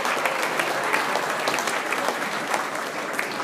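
A crowd applauds steadily, dense overlapping claps forming a continuous, fairly loud wash of sound with no voices standing out.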